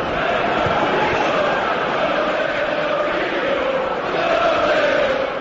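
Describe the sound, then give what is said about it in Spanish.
A large football crowd at Chelsea's Stamford Bridge stadium in London chants José Mourinho's name in unison during the opening minutes of a Chelsea v Basel tie, a steady roaring mass of voices with a faintly rhythmic, sung quality that swells slightly toward the end. “Primeros minutos y esto gritaba el público londinense.”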